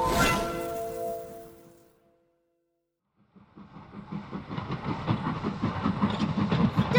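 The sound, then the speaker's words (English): A sustained horn-like tone fades out, then after a short silence a train starts rolling along the tracks, its rhythmic clacking and rumble building steadily louder. “Stop! Stop the train!”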